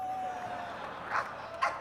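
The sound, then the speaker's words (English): Two short, yappy barks from a dog called Space Dog, brought on stage at a concert on the Space Dog Tour, about half a second apart, fairly faint against a steady background hum and hiss. “I know it was cruel to bring the dog up here.”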